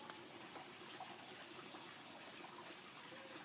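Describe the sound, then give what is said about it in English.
Steady, dense splashing and bubbling of running water from a garden water feature at a property, heard while walking past it. It continues evenly without pause at a moderate level, with no voices. “I'm walking past a property here and they've got a water feature. I can't see it, but you can hear it bubbling.”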